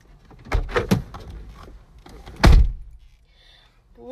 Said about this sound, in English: The little pig quickly ran inside his home and slammed the door.